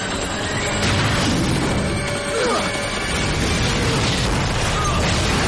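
A loud explosion as a missile strikes a helicopter in the sky, engulfing it in flames: a dense, roaring, crackling blast that fills the whole clip, with a brief whining tone sliding through the middle.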